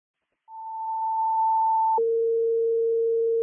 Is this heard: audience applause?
no